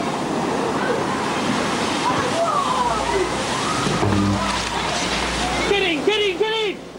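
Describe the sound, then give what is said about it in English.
Loud, continuous rushing and sloshing of a massive tsunami wave, some 15 to 20 feet tall, from the Indian Ocean earthquake of December 26, 2004, churning steadily throughout, with people's voices shouting and crying out over it near the end. “That wave is a good 15, 20 feet tall.”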